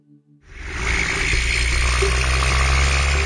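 Logging trucks rumble, heard through river water, a deep, steady engine drone with a vibrating, rattly texture that swells in after a brief quiet start and holds loud and unbroken.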